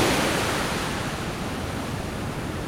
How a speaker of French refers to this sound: Le surf est arrivé en 1957 à la côte des Basques. Et cette vague, elle a commencé à être surfée vers 1960-61. Ah, celle-là, regarde celle-là. Ah, si, elle est belle, celle-là.